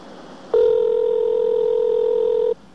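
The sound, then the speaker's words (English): A phone's ringback tone sounds once on a call placed from a blocked number that goes unanswered and forwards to voicemail: a steady, mid-pitched electronic buzz that holds evenly for about two seconds, then cuts off abruptly. No one speaks. “You should be able to tell when it trips over, the ring will be slightly different.”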